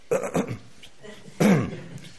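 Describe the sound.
A voice imitates a mother's pointed warning cough and throat clearing, used to call children to order during a church meeting when hymnbook pages rustled: two short, fairly loud voiced bursts about a second apart, with quiet between them.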